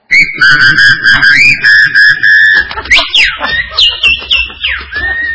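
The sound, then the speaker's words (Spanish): A person whistles with their mouth a loud, steady melody of held notes, then breaks into quick sliding chirps and swoops that sound almost birdlike, ending on a sustained tone. “gusta mi chiflido, escuchá.”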